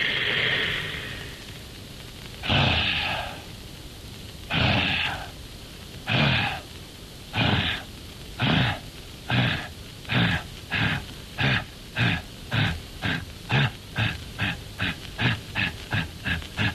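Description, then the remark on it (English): A voice imitates a steam locomotive pulling away as its engine driver pulls down a lever: a soft opening hiss, then loud breathy chuffs that start slow and steadily quicken into a rapid, even rhythm. “And when the train's about to leave, he pulls down a lever, and this livid beast is unleashed.”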